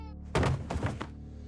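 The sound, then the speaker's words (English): A loud, jarring thud lands first, followed by a couple of heavier bumps in quick succession, like something or someone falling down the stairs of a Sterling Place brownstone in New York, reverberating through the building over a low steady hum. “Moments later, a loud, jarring thud reverberated through the building, as if something, or someone, had fallen down the stairs.”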